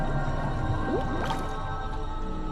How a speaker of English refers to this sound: Bubbles form on the water's surface.